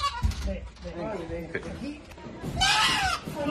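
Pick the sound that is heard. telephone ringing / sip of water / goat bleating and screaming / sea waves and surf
goat bleating and screaming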